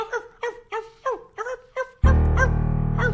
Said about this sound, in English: Oh, a dog. Man's so-called best friend. No friend to me. Beat it, Rover. I'm trying to do my job here.